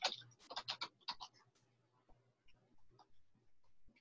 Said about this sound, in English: My very fast typing.